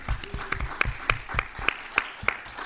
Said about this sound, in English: Round of applause for the people at CrimeCon for putting this on. It's been amazing. Yeah. And a round of applause for you guys, too.